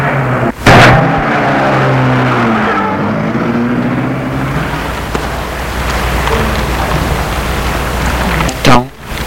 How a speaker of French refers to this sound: Elle paye et sort du taxi. Elle entend le taxi s'éloigner.